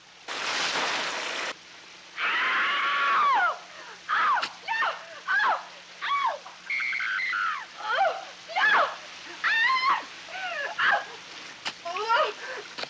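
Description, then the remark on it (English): Steady hiss of a running shower in a film's shower scene heard without its music, then a woman's high, piercing screams break out in a string of short, frantic bursts over the splashing water, loud. “Well, we have the sound isolated of the this is what the shower scene would have sounded like without music.”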